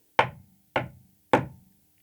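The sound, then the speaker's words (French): Three firm knocks on a wooden castle door, evenly spaced about half a second apart, each with a sharp hollow attack and a brief resonant decay, fairly loud with no voices. “Et il arrive pour frapper à la porte.”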